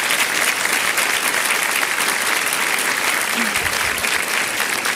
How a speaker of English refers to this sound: So, as we get started, let's give these women a round of applause. Great information.